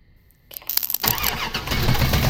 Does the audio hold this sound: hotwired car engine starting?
yes